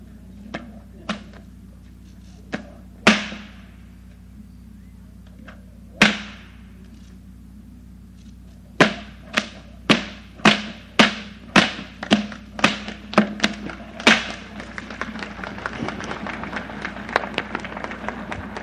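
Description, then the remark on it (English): Two whips are cracked overhead at the same time as a trick, without getting them tangled, starting with scattered sharp snaps, then building into a rapid alternating series of loud cracks that blur into continuous snapping toward the end. “This is to pop two whips over your head at the same time without getting them tangled together.”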